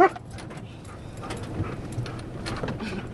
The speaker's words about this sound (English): When it comes to a stop, Indiana Bones, a human remains detection dog, is on alert, nose sniffing the air.